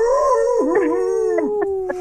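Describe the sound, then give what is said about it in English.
A loud howl like a dog or wolf, one long wavering note that slowly slides downward over about two seconds, with a few short yelping bursts breaking in toward the end. “Next time, stick your head out the window, you finish and just howl.”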